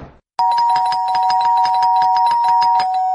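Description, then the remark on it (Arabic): An apartment doorbell rings without pause, its steady electronic tone buzzing loudly and continuously with a rapid pulsing rattle as a man keeps his hand on the button, starting after a brief moment of near silence. “كمل طلوع لحد ما وصل لشقه تانية وفضل معلق ايده على الجرس.”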